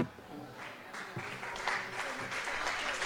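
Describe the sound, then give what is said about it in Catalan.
An audience applauds steadily, a dense wash of clapping that holds at a fairly even level throughout and swells slightly toward the end. “Vinga, vinga, més fora aquest aplaudiment.”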